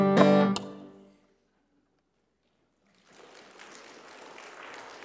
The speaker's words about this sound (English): Oh, now that's just pity applause. I know what that is.